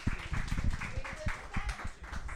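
A crowd claps and cheers in a dense, steady patter of overlapping hand strikes, with a faint murmur of voices mixed in, moderately loud and sustained throughout. The audience is cheering to vote on which player is eliminated in a game.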